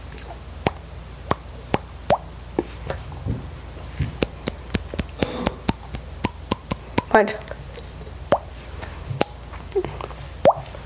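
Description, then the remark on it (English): A long run of sharp, hollow popping sounds made by tapping a cheek, about twenty pops at an uneven, fairly quick pace, with brief speech breaking in partway through. “It's a solid thud, friend. You gotta go like this. Like. Or you can get it in your cheek too, or you can hit like the edge of your jawbone.”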